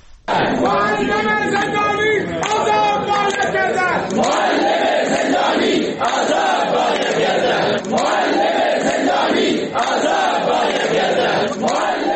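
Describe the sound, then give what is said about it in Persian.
A loud crowd of employed and retired teachers chants in unison at a protest rally in Sanandaj, western Iran, voices rising and falling in rhythmic, repeated slogans, with steady background clamor and brief pauses between phrases. “بنابر تصاویر منتشر شده در شبکه‌های اجتماعی، تجمعات فرهنگیان شاغل و بازنشسته در استان‌های غربی ایران چشمگیر بوده، از جمله در شهر سنندج.”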